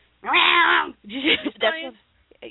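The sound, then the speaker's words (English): A young female cat vocalizes while playing: one long, drawn-out meow followed by a couple of shorter, choppier chirping calls, fairly loud and with no one talking. “I don't understand the growling run out and hiding behind. She's not growling. She's playing.”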